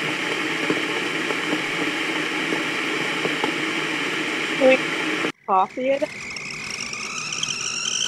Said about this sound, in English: Oh, the kettle's boiling. More coffee. The coffee's gonna be ready soon.